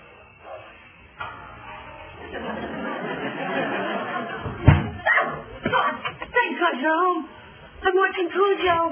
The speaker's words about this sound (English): They're trapped in the car and Cujo's throwing himself at the windshield? No, seriously, what's wrong with the dog?